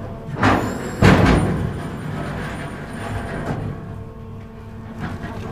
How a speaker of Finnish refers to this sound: Yhteysalus Otava jarruttaa Haapasaaren rantaan.